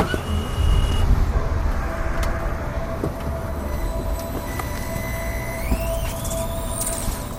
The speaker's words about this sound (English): Maybe you know that sound. Maybe you own or someone you know owns an electric car, an electric vehicle. If you don't, you will soon. They're all around us these days, especially right here in Los Angeles.